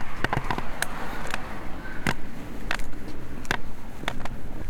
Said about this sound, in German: Genau, ich muss aber noch auf den Lindenwiesenweg, aber da vorne höre ich schon die nächste Straße am Röthenbacher Landgraben. Fahren Autos.